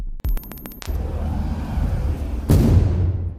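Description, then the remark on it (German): A homemade explosive device detonates at the door of a synagogue, set off by an attacker trying to blow the door open: a quick burst of sharp cracks, then a sustained low rumbling roar, with a heavy, loud blast near the end and no voices. “Er versucht, sie mit einem selbstgebauten Sprengsatz aufzusprengen. Das ist die Explosion, die Max Priworotzki und seine Gemeinde im Innern hören.”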